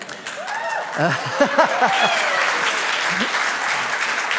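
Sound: audience clapping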